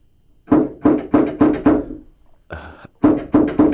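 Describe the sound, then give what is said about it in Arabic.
Someone knocks on a door in a steady run of five firm, hollow raps, then a brief rasping sound after a short pause, followed by three more knocks at the same pace. “معذرة أعزائي المستمعين، من في الباب؟”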